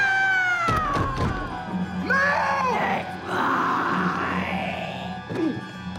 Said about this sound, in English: Brandon pounds dark wood doors. Lynn looks to the doors.